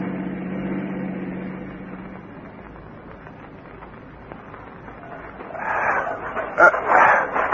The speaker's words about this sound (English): says they've got the meanest dog in the state. And don't they keep him tied? Yeah, but he chews loose. And he hates everybody but the old lady and her grandson.